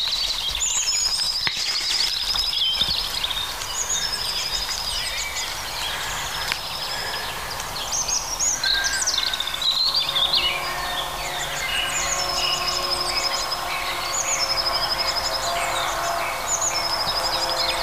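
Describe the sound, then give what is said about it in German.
Several European robins sing over one another, trying to outdo each other, in bright, high warbling phrases and trills, while a blue tit gives repeated rhythmic high notes, with a constant outdoor hiss behind them. No one speaks. “Also die Rotkehlchen übertrumpfen sich gegenseitig.”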